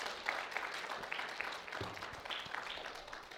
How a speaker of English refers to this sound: Will you receive it? Give the Lord a hand clap of praise if you do.